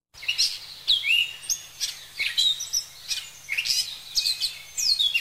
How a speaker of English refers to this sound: He sees the flowers blooming. He hears birds chirping. "It is spring," says Sleepy Simon.